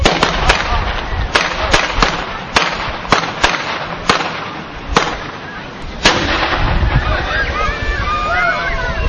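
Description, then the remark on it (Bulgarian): Celebratory salute guns and cannon fire by the chetnitsi and their voivode from the Traditsiya club, heralding the arrival of spring at the big dam in Blagoevgrad, Bulgaria: about a dozen sharp, loud booming shots at irregular intervals, over a murmuring crowd with a whistling tone near the end. “А сега да поканим четниците и техния войвода от клуб Традиция с празнични салюти и топовен гръм да възвестим пукването на пролетта в Благоевград.”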